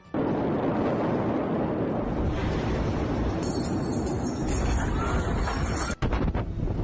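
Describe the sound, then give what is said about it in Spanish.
A massive explosion in Beirut, Lebanon, roars as a loud, sustained low rumble, buffeted like heavy wind across the microphone, with a harsh high hiss rising partway through before briefly cutting out near the end. “Salvaje explosión.”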